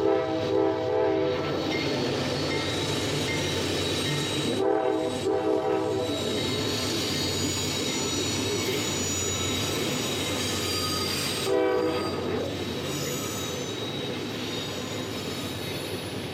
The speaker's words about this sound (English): I think we got ourselves a coal train. We do.